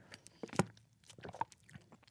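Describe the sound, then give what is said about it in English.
Dry, crunchy chewing on sausage: a sharp bite near the start followed by irregular, soft crackling mouth sounds, fairly quiet with no talking. “That's me eating sausage. It sounds so dry.”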